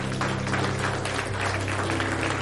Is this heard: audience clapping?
yes